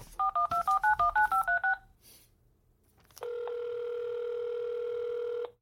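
A landline phone dials with a quick, even run of about ten touch-tone beeps. After a short pause, a loud, steady line tone hums continuously. No one speaks.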